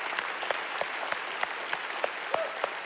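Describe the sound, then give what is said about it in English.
A church audience claps together in a steady, even rhythm, sharp unison claps about three per second over a dense wash of crowd applause and noise, moderately loud. “Now clap and go crazy for that.”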